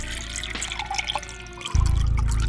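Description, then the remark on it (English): A fine, rare vintage liqueur pours into a glass with a steady, gurgling trickle that swells into a fuller, heavier flow partway through. No voices are heard. “Let me fill your glass once more.”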